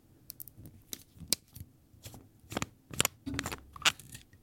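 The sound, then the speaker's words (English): Someone unscrews the cap of an orange Sailor Pro Gear fountain pen: a quiet run of small, irregular clicks and light scraping twists over a few seconds, with no voices. “I'm going to unscrew the cap.”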